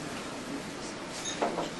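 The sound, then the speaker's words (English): A cupboard door opens with a brief scraping, creaking movement over a steady background hiss, ending in a couple of quick soft knocks. “See, it was dangerous to open the door.”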